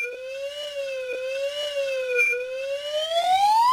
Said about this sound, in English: Because graphs don't translate well to podcasting, instead, the slide whistle will give you an idea of what the graph would look like.